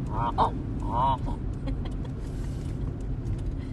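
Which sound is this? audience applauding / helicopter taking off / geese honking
geese honking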